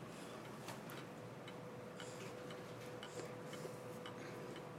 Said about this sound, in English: One random little clock. And it's got, like, glass face and the little door that opens. And I was so excited when we found it here.